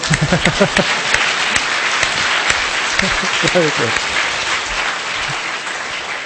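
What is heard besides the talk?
audience applause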